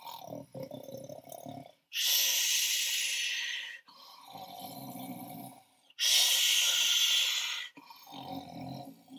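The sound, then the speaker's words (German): Loud, steady snoring of a tailor sleeping deeply in his bed at night: rough, rumbling inhales alternate with long, breathy hissing exhales, repeating in a slow rhythm of about two full cycles, with no talking. “Man hörte sein lautes Schnarchen.”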